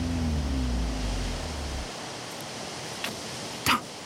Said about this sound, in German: Nur das Meer ist zu hören.